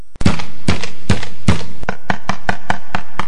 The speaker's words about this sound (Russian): Недалеко она увидела маленький домик. Подошла, постучала.